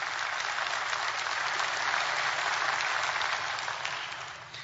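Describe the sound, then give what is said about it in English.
A crowd applauds steadily, a dense wash of many hands clapping at an even, fairly loud level that holds for several seconds before gradually tapering off at the end. “But because we are, you can applaud to that.”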